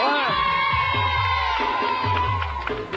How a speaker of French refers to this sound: On l'applaudit.